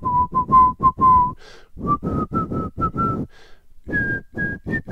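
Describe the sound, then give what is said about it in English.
A person whistles the nursery-rhyme tune "The Farmer in the Dell", clear, in three short phrases of quick repeated notes with brief pauses and soft breaths between them. No one speaks. “The farmer in the dell. He doesn't sing the last part. He whistles the whole time.”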